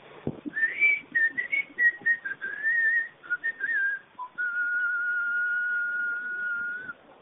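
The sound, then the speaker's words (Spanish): A person standing at the door of a long house whistles a short, wavering melody of quick notes, then holds one long steady tone for several seconds. The whistling is clear, with no talking. “Y chiflo un poco.”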